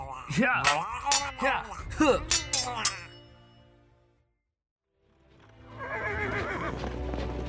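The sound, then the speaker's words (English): A horse pulling a cart whinnies loudly in a series of shrill, wavering calls and fades to near silence. Then a busy rumble of hooves and cart noise rises again. “Let's just keep this horse cart going!”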